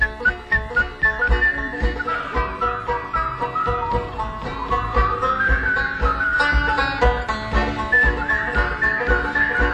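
A person whistles a wavering, sustained melody over a steady, rhythmic plucked or strummed accompaniment with no talking.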